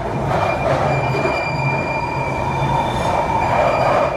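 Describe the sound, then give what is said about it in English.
A London Underground train screeches, its wheels letting out sustained, piercing high-pitched squeals over a loud, steady roar of rumbling rail noise that continues unbroken throughout. “to see if I can find an audio recording that someone's made of like the screeches of the tube.”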